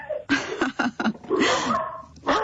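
A dog named Paco barks excitedly in the background of a caller's phone call, a quick run of short barks followed by longer, more drawn-out yelping sounds, fairly loud against a quiet background.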